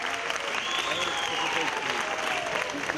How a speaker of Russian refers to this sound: Я специально ожидала для того, чтобы вы действительно себя поприветствовали аплодисментами, вызвали начало нашего концерта. Поэтому аплодируйте.